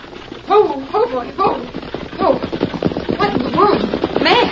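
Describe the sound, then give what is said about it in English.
A rapid run of sharp clopping hoof strikes as a horse and wagon approach, clattering steadily beneath voices talking over it. “Sabi, somebody come. It's a horse and wagon.”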